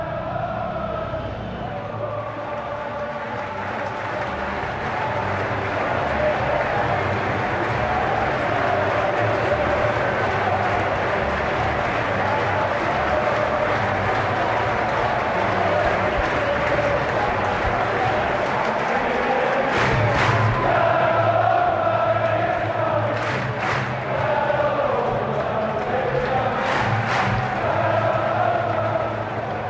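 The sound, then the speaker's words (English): A dense, steady crowd murmur of Crystal Palace fans leaving Selhurst Park stadium after their team beat United 1-0, at quarter past six on the last Sunday of the Premier League season, with scattered shouts, chatter and occasional cheering rising above the constant rumble of many people on the move. “Quarter past six here on the last Sunday of the Premier League season, and I'm overlooking both a crowd of Crystal Palace fans leaving Selhurst Park after the team has beaten United 1-0 and the stadium.”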